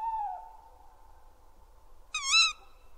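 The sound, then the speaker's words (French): A tawny owl calls in a still night: a drawn-out, fading hoot, then after a pause a brief, quavering, shrill cry, clear, with no voices. “Personne n'aime entendre le cri du chat-huant dans la campagne déserte l'hiver”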